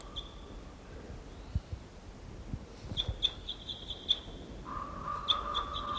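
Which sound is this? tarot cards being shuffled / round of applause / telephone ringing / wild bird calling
wild bird calling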